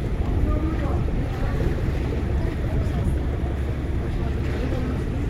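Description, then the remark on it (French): A passenger boat's engine rumbles steadily at a pier on the water. It is a dense low drone mixed with wind buffeting the microphone and the wash of waves, continuous throughout. “J'attends le bateau suivant pour prendre un mes bateaux habituels, qui sont un peu plus grands que les Vaporetto de Venise.”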